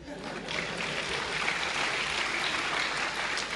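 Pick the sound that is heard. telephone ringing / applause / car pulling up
applause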